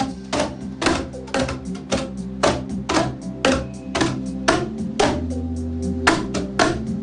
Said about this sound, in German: damit man auch genau im richtigen Moment die Röhre auf den Tisch oder sonst was haut